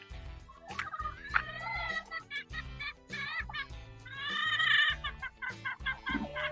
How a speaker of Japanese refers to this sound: あ、今ね、鶏の声聞こえるかな。めちゃくちゃ元気なね、鶏さんのところに卵を買いに行きました。